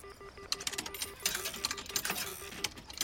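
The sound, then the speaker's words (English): Coins clink and rattle as they are slotted into a payphone: a quick run of sharp metallic clicks, with a faint pulsing tone underneath and no voices. “English slots coins into a payphone.”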